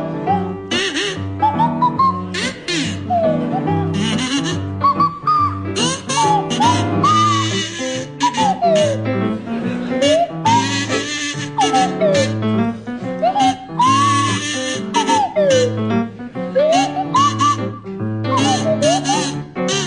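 A buzzy kazoo plays a bouncy, familiar melody while a slide whistle swoops up and down in repeated glissandos, both loud and close, continuous for the whole stretch with no talking.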